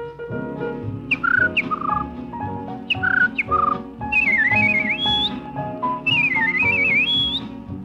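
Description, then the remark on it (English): A person whistles an imitation of an American thrush's song: clear, fluting phrases that rise and fall, repeated in short bursts and then longer warbling runs, over a steady low musical backing. “I'd like to give you the American thrush.”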